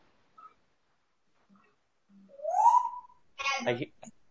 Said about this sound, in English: I hear Joko, the parrot, adding in the background.